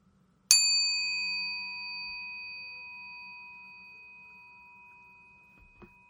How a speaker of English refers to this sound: Start by taking 3 deep breaths in through your nose and out through your mouth, focusing your attention on the sound of the bell ringing until you cannot hear it any longer.